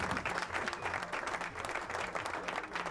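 A crowd cheers and applauds steadily, a dense wash of clapping and shouting that stays loud throughout, with faint chanting-like tones rising and falling underneath.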